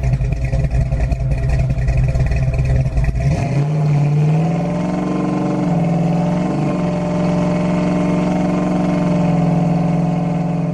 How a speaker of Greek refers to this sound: Βασίστηκε στη Mustang GT και αυτό σημαίνει ότι ο κινητήρας των 5 λίτρων V8 απόδοση 464 άλογα.